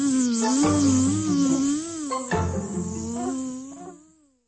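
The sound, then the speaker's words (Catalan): A bee buzzes loudly, a steady droning hum whose pitch wavers up and down for about four seconds before fading out, with no talking. “Però tot i que els petons són dolços com la mel, no m'agraden les abelles.”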